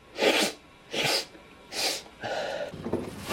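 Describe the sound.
Three sharp, forceful nasal snorts in quick succession, followed by a longer, drawn-out sniffing inhale, as someone snorts cocaine in a men's room. Fairly loud, with no talking.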